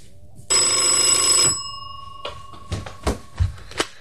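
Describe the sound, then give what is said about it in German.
A single loud burst of an old-fashioned telephone bell, from a telephone on an old-fashioned nightstand, rings for about a second, bright and metallic with a lingering tone, followed by a few soft clicks and knocks like the receiver being picked up. “Dann wieder starrte er voller Ungeduld den Telefonapparat auf dem altmodischen Nachtschränkchen an.”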